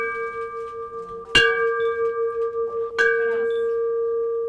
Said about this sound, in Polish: Wszystkie choroby podobno biorą się z głowy, więc jest to bardzo ważne, a to też symbolika jest istotna, bo pacjentki dzwoniąc w dzwon obwieszczają, że już poradziły sobie z chorobą.